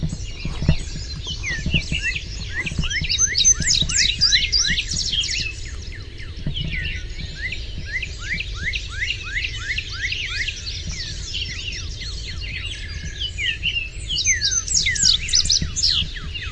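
Dense, rapid bird chirping fills the scene continuously, many quick high tweets overlapping in bursts, over a low background rumble with no talking.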